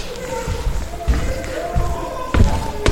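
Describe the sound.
Several heavy wooden thuds land at uneven intervals as a couple of chairs are shifted and set down on a hard floor, with faint scraping and a murmur of voices underneath.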